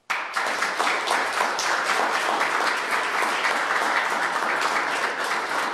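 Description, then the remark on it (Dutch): Sustained audience applause at a town hall, given to appoint successors, a dense crackle of many hands clapping that starts abruptly and holds steady and loud throughout, with no voices standing out. “Maar als dat niet zo is, dan vraag ik u via een applaus al uw opvolgers te benoemen.”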